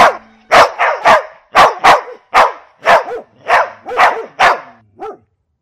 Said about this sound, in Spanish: Los perros ladran cada vez más fuerte y la voz se escucha más clara.